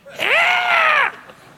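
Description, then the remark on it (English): A person lets out a loud, shrill screech in imitation of an eagle's cry, one sustained call of about a second that rises sharply and then holds steady before cutting off. “Is it a screeching eagle?”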